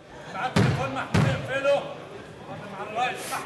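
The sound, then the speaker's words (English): Two sharp wooden gavel bangs from a judge in an Egyptian court sentencing three Al Jazeera English journalists, about half a second apart and loud, over a murmur of voices that continues after the strikes. “Slamming his gavel, the judge dashed the hopes of three imprisoned journalists, Egyptian-Canadian Mohamed Fahmy, Australian Peter Greste, and Egyptian Bahir Mohamed.”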